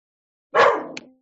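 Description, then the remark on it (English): A single fairly loud vocalization from a dog named Kale at dog-walking time, a sharp bark that trails off into a brief whiny tail, heard on its own with no talking. “She's it's dog walking time.”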